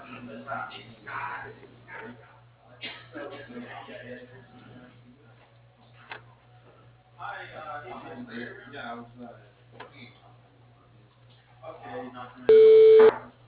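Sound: telephone call transfer tones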